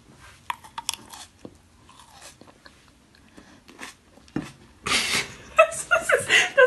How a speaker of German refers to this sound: Und heute Snack der Woche. Mm. Ich schmatz mal rein. Achtung. Ich mach einfach. Ruhe bitte.